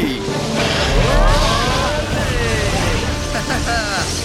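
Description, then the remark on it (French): A boat sets off on the ocean with a loud, steady roar of engine and rushing water filling the whole scene, while voices call out faintly over the noise. “Alors, je vous préviens, j'aime pas les bateaux.”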